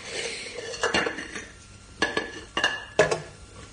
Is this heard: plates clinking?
yes